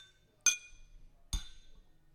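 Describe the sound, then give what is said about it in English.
Two bright glass clinks, about a second apart, each with a short ringing tail of high tones, fairly loud, with no talking in between, as glasses are clinked together in a toast. “So cheers. Toast. Cheers.”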